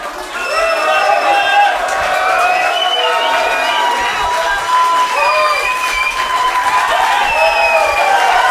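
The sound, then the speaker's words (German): A concert audience shouts and cheers steadily for an encore for several seconds, many high voices overlapping in whoops and calls at a constant loud level, with no pauses. “Stehen dahinter, ihr schreit, dann kommen wir schnell raus und machen eine Zugabe.”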